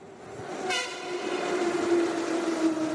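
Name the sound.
train passing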